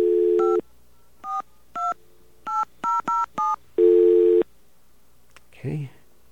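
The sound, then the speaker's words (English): A steady phone tone, then a string of about seven distinct touch-tone beeps dialed into an automated phone system at an uneven pace, another longer tone, and a brief voice at the end. “Okay, we're going to have to keep trying until it understands all of our touch tones.”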